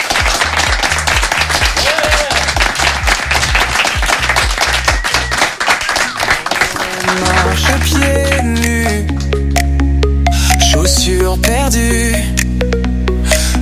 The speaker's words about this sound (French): C'est bon, on a le temps, on va juste s'applaudir. Okay. Voilà, tous ensemble.